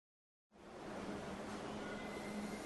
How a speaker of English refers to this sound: Hi, I'm at the subway station.